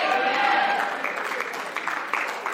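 An audience claps in a dense, steady patter that runs the whole time, with a faint sustained tone underneath at the start.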